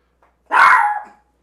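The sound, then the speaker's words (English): A single loud dog bark from a dog named Crackers, sharp and harmonic, lasting about half a second before fading, with silence on either side. “Crackers, shut up. Sorry about that.”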